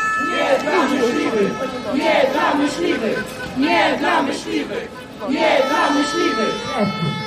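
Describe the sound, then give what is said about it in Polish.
A crowd of animal rights protesters in a Polish city, protesting the large-scale wild boar hunts held against African swine fever in January 2019, chants in unison, repeating the same rhythmic phrase three times with short pauses between, loud and steady throughout. “W miastach protestują obrońcy zwierząt.”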